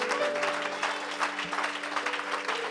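An audience claps hands steadily in praise of the Lord, dense overlapping claps forming a continuous rattle, with sustained organ or keyboard tones droning underneath.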